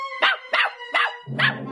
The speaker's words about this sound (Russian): Залаял щенок.